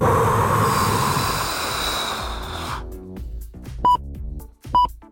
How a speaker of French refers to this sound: Tiens, allez-y …, soufflez dans votre micro.